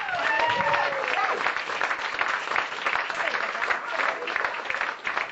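Sustained audience applause welcoming a stand-up comedian onto the stage, a dense wash of clapping at steady loudness for several seconds, with a few faint whoops or cheers mixed in near the start.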